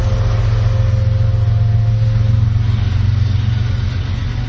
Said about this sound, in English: Love having the windows open and the trains coming by. This is truly Sky Comish.